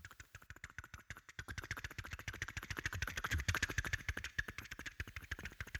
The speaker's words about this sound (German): Tatsächlich. Sven die Möwe kreist über dem Kutter und ruft den Kumpel Hein. Hein, Hein, ich bin's, der Sven.